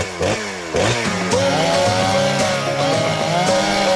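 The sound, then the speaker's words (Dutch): A chainsaw engine sputters to life and revs hard, its buzzing whine rising and falling in pitch as the throttle is pumped, loud with no talking. “Hup, kettingzaag aan.”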